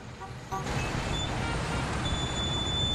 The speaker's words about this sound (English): A yellow school bus pulls out from the side of the road and drives away.